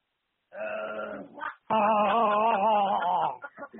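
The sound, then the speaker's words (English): A voice imitates Chewbacca's Wookiee growl: two loud, throaty, warbling roars, a short one and then a longer quavering one trailing off into rough grunts, with no talking. “Can you do a Chewbacca impression?”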